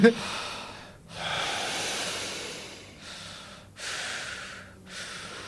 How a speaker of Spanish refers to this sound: Hay respiración profunda. ¿Qué pasó? ¿Pero no era una sola persona? Hay como tres. Hay como cuatro.